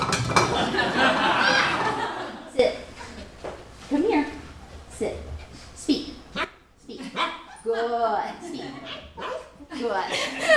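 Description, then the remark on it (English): A dog gives a series of soft, quiet barks at irregular intervals, subdued, with people talking in the background. “I like dogs that whisper instead of making too much noise.”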